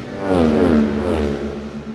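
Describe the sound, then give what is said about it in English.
Five racing motorcycles roar past the finish line, their engines howling with a strong buzzing tone that rises and then falls in pitch as the machines sweep by, loud and steady throughout. “Two machines, three, four, five interview. Let's have a listen to them across the line.”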